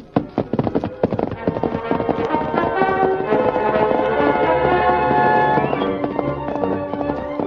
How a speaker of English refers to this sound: Leaving Tonto on guard, the Lone Ranger set out in the darkness on his great horse, Silver. Come on, Silver!